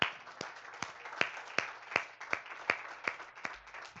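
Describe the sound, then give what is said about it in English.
An audience applauding for mothers on Mother's Day: a dense wash of clapping with sharp, steady claps landing on a regular beat, about ten in a row, fairly loud, with no talking. “Is it all right if we give them a round of applause today?”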